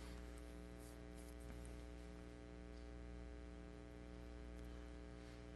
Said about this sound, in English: as the heater kicks in, now the air conditioner.